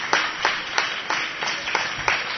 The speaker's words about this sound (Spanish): Bueno, pues vamos a finalizar de esta forma esta conferencia de Ignasi Labastida, de Creative Commons. Espero que haya quedado todo un poquito más claro. Un fuerte aplauso para Ignasi.